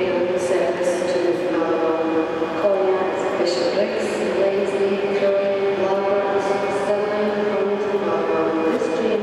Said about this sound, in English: it's a 4-coach train and we've got to be in the rear 2 to go up towards Fort William